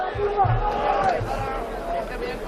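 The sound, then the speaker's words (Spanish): A dense crowd of football fans shouts and calls out together in a steady, loud hubbub in the street, walking from Plaza de Zaragoza to the Mestalla stadium, with many shouts about Peter Lim, a few raised cries rising above the babble and low thuds underneath. “desde aquí, desde la Plaza de Zaragoza hasta el campo de Mestalla, que estaremos hablando en torno a un kilómetro más o menos, con mucho grito de Peter Lim. Y es que es verdad que esto parece un partido, ¿eh?”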